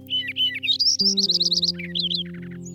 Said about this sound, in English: And so, watching these sparrows in habitat that many people would overlook inspired a poem celebrating these little brown birds.